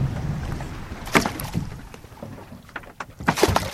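A 20-foot-long research boat moves across the water off Maui toward a humpback whale, with a low, steady rumble, splashing and sloshing, and a few sharper knocks and splashes against the hull; moderately loud, no voices.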